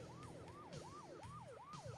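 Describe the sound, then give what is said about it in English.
A police siren wails in a fast, repeating rise-and-fall yelp, about two cycles per second, with steady road and engine rumble underneath and no voices. “Oh, uh-oh. Cops are here.”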